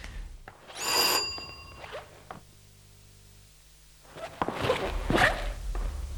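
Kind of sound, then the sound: household object, doorbell ringing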